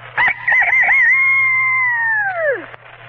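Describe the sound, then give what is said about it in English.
A person imitates a rooster crowing: one loud cock-a-doodle-doo with a warbling start, a long held middle note and a sharp downward fall at the end, over a faint steady hum. “The next imitation is a rooster.”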